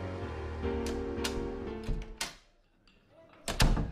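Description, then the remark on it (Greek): The door of a family home opens with a few sharp knocks and clunks spread over several seconds, over a steady low background hum that briefly drops away before a final louder thump. “Δεν έχασε καιρό λοιπόν, πήγε αμέσως στο πατρικό της, άνοιξε την πόρτα και αντίκρισε όλη την οικογένεια συγκεντρωμένη στο σαλόνι.”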